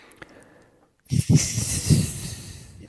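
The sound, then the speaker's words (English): After a second of near silence, a person makes a loud, sustained hissing sound imitating a snake, breathy, with a rough throaty rasp running underneath for about two seconds. “Got ourselves a human snake.”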